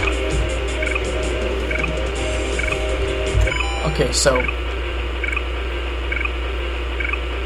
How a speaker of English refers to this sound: that is the actual teleporter sound. You hear the little clicking and the humming.